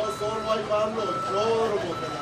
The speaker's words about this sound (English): At 9 on a Wednesday morning, guys looking for work crowd the job center in a Home Depot parking lot. On this unlikely stage, the actors are sometimes drowned out by noisy trucks.